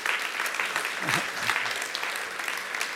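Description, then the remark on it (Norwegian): Steady, warm applause from a crowd for the worship singers, a dense, even patter of many hands clapping that holds at a constant level throughout, with a faint voice briefly audible beneath it. “Och på väg ned kan vi ikke också ge en varm applaus till lovsångarna våra.”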